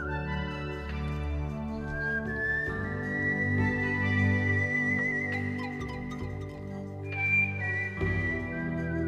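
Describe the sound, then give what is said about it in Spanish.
A man whistles a slow melody with long, sliding notes over a soft instrumental backing. The whistling is clear and steady at moderate volume, and no one speaks. “escuchando una cinta cassette, porque entonces no había CDs, claro, de un señor silbando, pues tiene su mérito también.”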